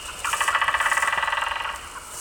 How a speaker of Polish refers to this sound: A odezwał się nam głos w tej chwili. Na pewno jest to albo dzięcioł pstry, albo białogrzbiety. Jeszcze po głosie nie możemy tego powiedzieć.